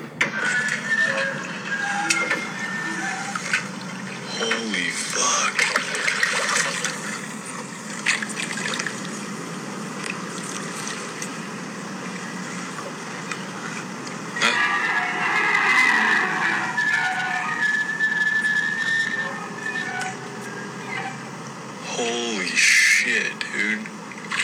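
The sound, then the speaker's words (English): Humpback whale calls out at sea: drawn-out moans and high, warbling squeals that rise and bend in pitch, coming in several bursts over a steady, hissing underwater background; whales can hear the calls hundreds of miles away. “Called a humpback whale emits that sound, and it can be heard.”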